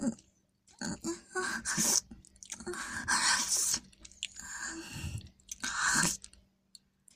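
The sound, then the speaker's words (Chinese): Wet chewing with smacking and squelching mouth noises in several irregular bursts, loud and intimate, with no talking; someone chewing dental plaque in their mouth. “啊，是，我再咀嚼一下齿垢。”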